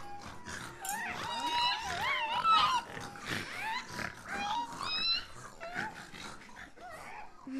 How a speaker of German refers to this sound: Guck mal, die Schweine, wie niedlich.